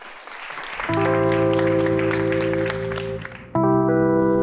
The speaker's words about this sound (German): Applaus.